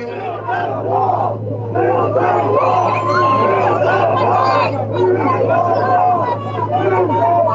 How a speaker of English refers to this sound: Huge crowd there. The audience was audibly engaged in chanting, expressing their admiration for Trump.